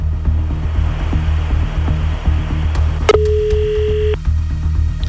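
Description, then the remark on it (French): A telephone line tone sounds for about a second after a few sharp clicks, as a random number is dialed for a OneFM radio call-in game where the phone is left to ring exactly three times, cutting through a steady low rumbling background, with no one speaking. “Je vais appeler maintenant un numéro au hasard et laisser le téléphone sonner exactement 3 fois, 3 bips.”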